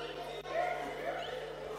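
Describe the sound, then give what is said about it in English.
A crowd of people imitates mice with overlapping squeaky voices, a steady jumble of thin, high vocal squeaks rising together for a couple of seconds. “Could I hear the mice squeaking?”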